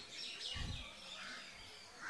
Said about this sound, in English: If nothing else, listen to the birds. Просто послушайте, как поют птицы.